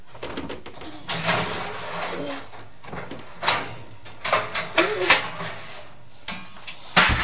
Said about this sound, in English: Oops, gosh, that was a big bang. Sorry, that was a cooker door.